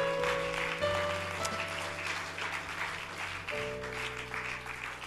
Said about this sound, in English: Woo! Clap your hands to the Lord today.